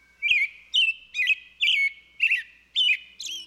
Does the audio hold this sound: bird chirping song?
yes